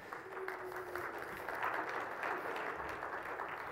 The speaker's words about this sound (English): That wasn't the most enthusiastic applause I've ever heard, but there will be some later, I know, because today is a special occasion.